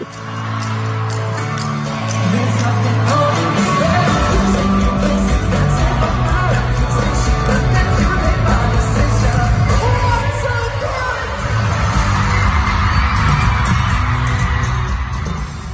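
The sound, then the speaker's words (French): A large concert crowd sings along loudly over amplified music, voices blending into a dense, continuous roar that stays strong for the whole stretch, with occasional shouts rising out of the mass. “On veut savoir, la foule a réagi comment? On va l'entendre à travers ton extrait?”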